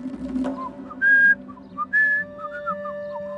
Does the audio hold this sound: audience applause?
no